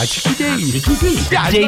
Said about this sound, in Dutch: De jingle doet het nog steeds.